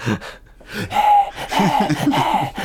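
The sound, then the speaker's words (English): Rapid, ragged gasping breaths follow one another closely, some with a strained voiced edge, like someone hyperventilating. The breathing is fairly loud and continuous, with no talking. “Totally sympathetic breathing the whole time, hyperventilating.”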